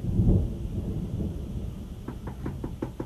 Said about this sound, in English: Good heavens, who is out in this rain?